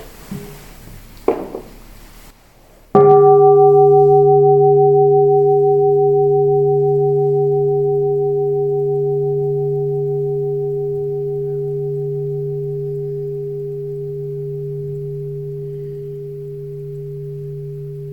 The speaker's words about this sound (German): Und über diesen Geheimnis hört ihr vielleicht mal eine Glocke noch.